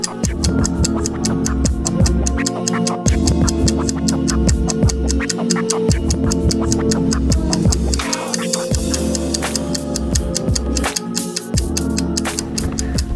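A steady ticking countdown pulses over a looping music bed during a riddle in a food quiz, the sharp, regular clicks moving at a brisk tempo and staying fairly loud throughout, with no voices.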